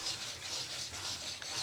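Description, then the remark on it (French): A storm sound effect: a steady, rushing wall of hissing noise that swells and fades in rhythmic gusts, fairly loud, with no voices. “Puis une énorme tempête commença.”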